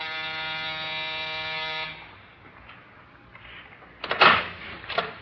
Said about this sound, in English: That's the buzzer over there.